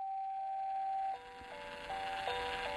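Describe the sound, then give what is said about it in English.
A baby's musical mobile plays a simple tinkling tune inside a small, packed car on a road trip across America, one clear note after another at a steady, unhurried pace, over a soft background hiss that swells slightly toward the end. “In the time capsule of our small car, packed to the gills with gear, 3 people, and a 90-pound dog, the panorama of America flashed by our windows like a movie set to the soundtrack of our son's musical mobile.”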